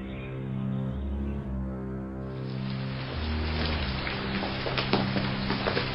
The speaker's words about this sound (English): Is this rain ever going to stop?